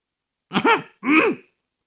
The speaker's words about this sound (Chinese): 丁宇咳嗽了一声，咽了口唾沫